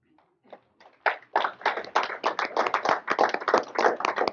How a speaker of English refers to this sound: The man got up and leaped. Everybody clap if that's a miracle.